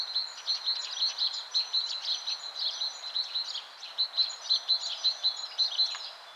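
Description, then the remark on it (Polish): Many male great tits singing their rhythmic territorial song as the weather turns warmer, bright repeated two-note phrases overlapping from several birds, steady and continuous throughout with no voices. “Po pierwsze ptaki, oczywiście to, co pierwsze można usłyszeć, kiedy robi się cieplej, bo oczywiście, że pełno śpiewu w okolicy, mnóstwo sikorbogatek, które rytmicznie powtarzają, że to ich teren i że są te samce najlepsze.”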